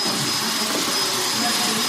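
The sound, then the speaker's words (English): A vacuum cleaner runs steadily, a loud continuous whooshing roar with a thin high whine on top, holding the same level throughout without pausing; it is being used to clean books in a library reading room. “They're actually vacuum cleaning the books.”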